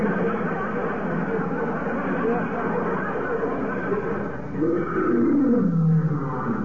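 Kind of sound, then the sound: animal, lion roar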